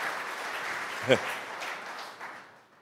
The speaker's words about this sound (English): You don't have to clap after every slide unless you really want to, but.